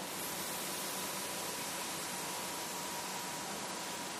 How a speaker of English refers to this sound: For those who cannot curl their tongue, Sitkari, your lower lip hangs open, and you just inhale like a hissing through your teeth.